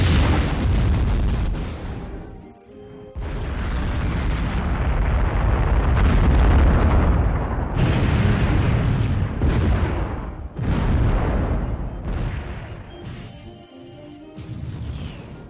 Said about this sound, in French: Ainsi, hier, j'ai vu éclater deux torpilles à 50 mètres de moi. Mais comme les torpilles arrivent lentement en faisant du bruit, on a le temps de sauter dans sa caverne, puis on entend une énorme explosion et on aperçoit un gros nuage noir.